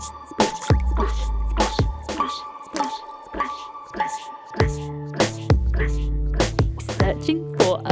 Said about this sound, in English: Through the stream, we must splash. Time is short and we must dash.